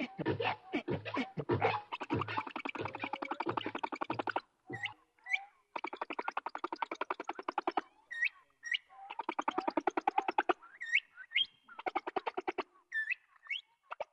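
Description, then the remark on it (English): Sped-up humpback whale song, a long 30-minute repeating song played faster: rapid buzzing pulse trains and short rising whistles in quick, chirpy phrases, sounding much like a complex songbird, with brief gaps between bursts and no talking. “his whole project was wondering why it was that you took the song of a humpback whale, this long 30-minute song that repeats up to 24 hours of singing.”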